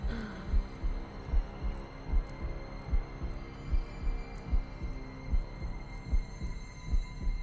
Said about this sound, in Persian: صدای ضربان قلبت رو میشنوم.